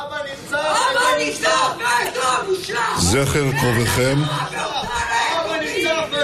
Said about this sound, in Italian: alcuni manifestanti hanno interrotto il discorso di Netanyahu durante una cerimonia di commemorazione, gridando vergogna